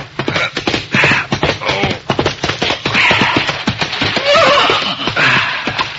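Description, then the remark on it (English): A horse gallops along a moonlit trail heading for the home corral, its hooves pounding in a fast, steady rhythm, with loud whinnies breaking out several times over the hoofbeats. “a horse was pounding along a moonlit trail heading for the home corral.”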